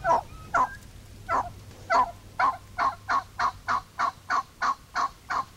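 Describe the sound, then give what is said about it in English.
An adult hen turkey's assembly call: a long series of about fourteen loud, raspy yelps in a steady, evenly spaced rhythm, heard up close with no talking. “This is the adult hen assembly call.”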